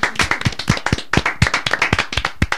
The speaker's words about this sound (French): on va l'applaudir une première fois. On va l'applaudir une deuxième fois. Non, ça fait saturer le micro. On va la rapplaudir.